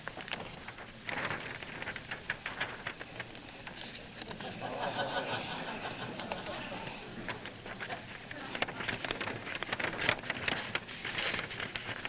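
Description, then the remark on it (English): Steady paper rustling and crinkling as a sheet of paper is folded and creased into a boat or a hat, with irregular crisp crackles continuing for several seconds and no voice. “We just have a piece of paper. Now I am going to create something.”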